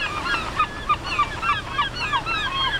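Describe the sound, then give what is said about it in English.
Herring gulls call over and over at Freedom Park in a steady, overlapping chorus of sharp, nasal cries from several birds against a low outdoor rumble, with no talking. “Gulls take refuge at the park year-round.”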